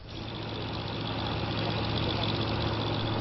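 A Brazilian Air Force military aircraft engine idles during a pre-departure inspection on the island of Fernando de Noronha, Brazil, with a steady, loud droning hum and low rumble, continuous and unchanging throughout, with no voices.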